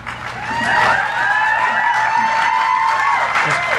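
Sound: crowd applauding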